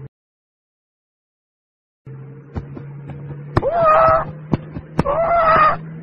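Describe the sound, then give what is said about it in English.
A large bird calls out twice in loud, drawn-out squawks about a second apart, over a low steady hum with a few sharp clicks and taps in between. “Oh no! Here's a big bird!”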